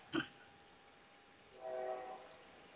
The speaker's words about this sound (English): Yes, you got a train. Why do you have a train, studio?